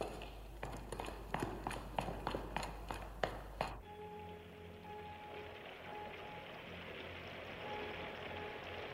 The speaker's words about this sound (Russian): И дождь усиливается.